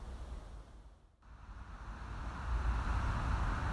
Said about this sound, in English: You may be able to hear the drone of the A65 in the background, which is the main road that links the city of Leeds with Ilkley and then the Yorkshire Dales beyond. It's quite contrasting to the peace of the place where I am at the moment.